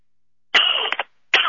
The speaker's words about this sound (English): Bless you.